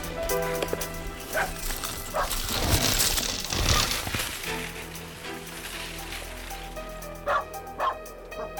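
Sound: sled dogs barking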